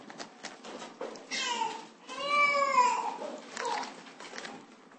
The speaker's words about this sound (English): By the way, that baby doesn't bother me at all. I'm used to pigs, chickens, cows, donkeys, village idiots, madmen, demon-possessed people, and everything else.